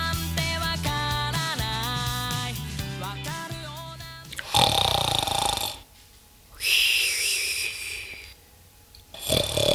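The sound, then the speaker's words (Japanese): A short melodic jingle gives way to loud, raspy snoring of Dora, a fat cat, while the house is being cleaned: three long, rough snores with quiet breaths between them, alone. “ドラのいびきが響き渡る中、今日も家の掃除が行われていた。”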